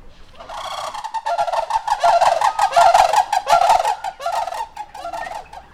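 Loud, rolling rattled calls of sandhill cranes at the Willow Park zoo in Cache Valley, several voices overlapping in a continuous trumpeting chorus that swells and fades over a few seconds, with no talking.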